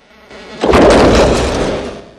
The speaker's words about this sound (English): He opens a door and cautiously steps into a dark ballroom. He his Tommy gun in one hand and torch in the other, Claymore nervously walks onto the empty dance floor. The doors swing shut behind him.